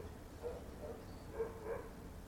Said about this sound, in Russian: А вы сейчас слышите лай собак, извините, который записывается вот здесь, в 20 минутах езды к северу от Иерусалима, в поселении Бейт-Эль. Я сейчас приоткрою дверь этого сооружения, в котором я нахожусь, чтобы вам было слышнее наших собак.